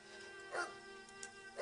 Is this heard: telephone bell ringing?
no